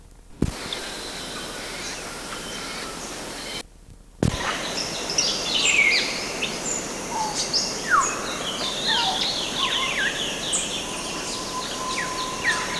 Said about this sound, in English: These are some of the flight calls from African gray parrots. And this is 19 June 1971, Kanyawada, the Kibale Forest. It seemed to be, I got a brief look, 20 birds, and they were flying past 500 meters on trail A.